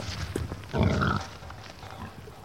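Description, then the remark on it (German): A pig in an outdoor run on a farm grunts loudly and raggedly for about half a second, with quieter snuffling and low grunts before and after against a steady outdoor background. “Ebenso wie die Kühe haben auch die Schweine Auslauf und werden nicht auf schnellstem Wege hochgepusht”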